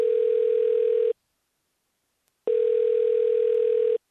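A telephone rings twice on the line, each steady electronic ring lasting about a second with a pause between, clear and fairly loud with no voices, on a call to the Fundación Acceso Hispano.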